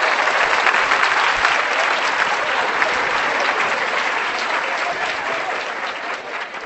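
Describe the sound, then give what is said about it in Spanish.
Steady, sustained applause from an audience for the musicians, a dense wash of many hands clapping at a constant loud level that eases slightly toward the end. “¡Un aplauso para la música, por favor!”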